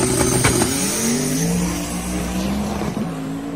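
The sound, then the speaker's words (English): An LS V8 race car engine in a Corvette screams at high revs, its loud, buzzing harmonic tone climbing steadily in pitch as the car accelerates down the track, with no voices. “Like, it says 2JZ track pass, and all you hear is an LS screaming down the track.”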